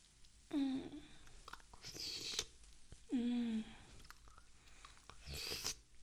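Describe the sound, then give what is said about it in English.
Wet chewing and crunching comes in two bouts, each opening with a low, sliding murmur before a burst of noisy mastication. There's no talking. “It's not every day I get such a tasty little morsel to chew on.”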